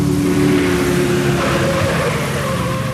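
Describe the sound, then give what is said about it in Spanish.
A car engine roars steadily and loudly for the whole stretch, a dense droning rumble with a strong tone that holds and rises slightly as the vehicle accelerates. “Sus recias y musculosas manos se aferran al volante y sus azules ojos descubren la entrada a los muelles del lado oeste.”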